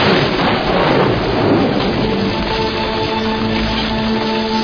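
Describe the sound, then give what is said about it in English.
Steady, heavy rain pours down with a deep rumble of thunder rolling underneath, loud and continuous throughout, with no voices present. “The three of us going through the garbage at 11 o'clock at night in the middle of a rainstorm?”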